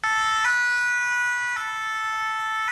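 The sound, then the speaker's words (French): The siren of a new fire engine of the Corps national des sapeurs-pompiers, 102nd fire company, in the South region, blares loud: a steady harmonic wail that shifts pitch in a slow two-tone pattern about once a second, with no voices. “Le nouvel engin d'intervention est doté d'un dispositif spécial capable de permettre aux soldats du feu de répondre à plusieurs sollicitations en cas de sinistre.”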